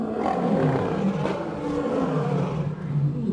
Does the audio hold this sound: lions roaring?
yes